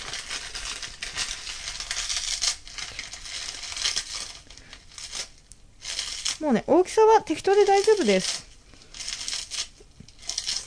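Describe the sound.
Crisp, crinkly crackling of toasted nori being torn by hand into a rice cooker over rice, water, ground chicken, chopped lotus root and ginger, coming in uneven bursts throughout, with a voice speaking briefly over it midway.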